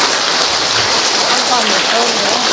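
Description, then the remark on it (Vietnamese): An audience applauds loudly, a dense, steady wash of many hands clapping that holds at full strength from start to finish with no voices over it. “Vỗ tay to lên thưa anh chị em.”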